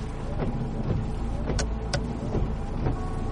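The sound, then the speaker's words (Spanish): A Toyota four-wheel-drive car drives through the streets of Madrid in the rain with a steady engine and road rumble, broken by a few short, sharp clicks and thumps. No one speaks. “Un coche que está circulando por las calles de Madrid.”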